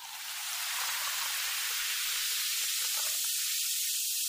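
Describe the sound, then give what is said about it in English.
Liquid splashes onto a floor and sets off a loud, steady hissing sizzle that swells in quickly and holds bright and harsh for several seconds, with no voices. “See, I pour a little on the floor.”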